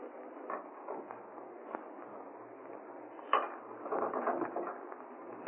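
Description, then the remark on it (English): Keys jingle and scrape in the lock of a city laboratory as someone tries keys to find one that fits, with scattered metallic clicks, one sharp clack partway through, a busier rattling stretch, then a final click as the lock turns. No voices. “One of these keys will fit.”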